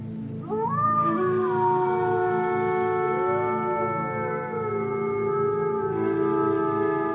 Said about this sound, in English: Have you ever heard the distant cry of a pack of wolves howling under a bright full moon shining in a clear night sky? Well, if you're locked inside a mountain cabin curled up under a blanket, the howling can be beautiful and mesmerizing.